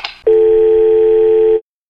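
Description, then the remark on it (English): A short clunk of a handset, then a loud, steady telephone dial tone hums unbroken for over a second before cutting off abruptly into silence. “Mama says hang up the phone.”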